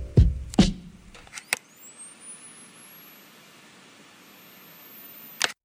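A mysterious mechanical clicking and loading noise: heavy thuds, then sharp clicks and a thin high whine that climbs steadily in pitch before a final crisp click.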